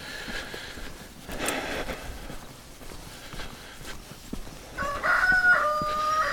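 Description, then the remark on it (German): A rooster crows once near the end, a drawn-out, wavering call rising over outdoor background noise and faint rustling steps of someone out walking with a dog on a cold day. It stands out clearly. “Ah, ist der Gockel, der hat das auch schon gehört.”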